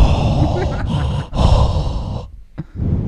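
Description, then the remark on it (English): A voice imitates loud, heavy mouth breathing into a microphone, mimicking a mouth breather on the mic while playing Xbox: long, harsh, hissing breaths in and out, broken by brief pauses, with a sharp gasp near the end. “Can you stop breathing in the fucking mic?”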